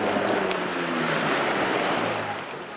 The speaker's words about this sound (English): At Kakwa's beach, men with rickety, unpainted wooden boats call out for passengers.